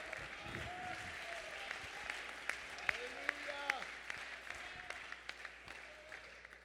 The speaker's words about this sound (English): You ought to clap your hands if you know God is good. You ought to clap your hands if God has ever brought you out. You ought to clap your hands.